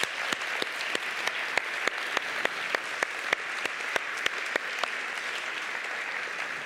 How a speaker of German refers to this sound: Wir schätzen das sehr und ich würde sagen, gebt ihnen mal einen dicken Applaus.